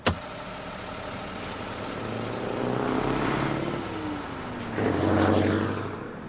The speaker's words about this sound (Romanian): Nu mă satur să privesc fascinată mașinile care vin și pleacă ca într-un balet armonios.